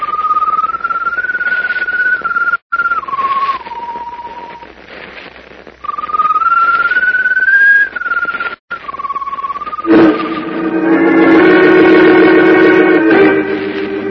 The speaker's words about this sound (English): Though echoing the doctor's pronouncement of impending doom, the strange glowing bird perched on top of the mast whistles mournfully.